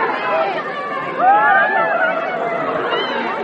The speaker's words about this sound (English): All that screaming here is not for me.